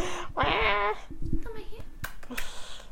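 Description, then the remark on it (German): A cat named Mausi meows loudly right up close to the microphone, one drawn-out meow followed by a shorter, softer one, with light clicks and rustling around them. “Ich dachte, ich kann euch jetzt ein paar. Miaus ganz nah ans Mikro geben.”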